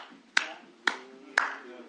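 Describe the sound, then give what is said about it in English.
Three sharp, loud hand claps in the way Black worshippers clap their hands in church, landing at an even, steady beat about half a second apart, each ringing briefly, over a soft background of murmuring voices. “This is the way black folk clap their hands.”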